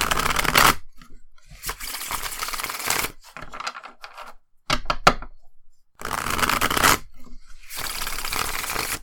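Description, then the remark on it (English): A Twin Peaks tarot deck, The Magician Longs to See, being shuffled: several loud bursts of crisp riffling and flapping separated by brief pauses, with no one talking. “Okay, so I'm going to shuffle. I might cut the shuffling sound out, depending on how it sounds.”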